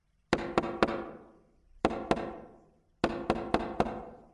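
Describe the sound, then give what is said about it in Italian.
Sharp tapping knocks on a forehead come in quick bursts: three taps, a pause, two more, then four, each crisp and fairly loud with a short ringing tail, and no voices. “Quel toc toc sulla fronte si ripeté ancora e io mi svegliai di soprassalto.”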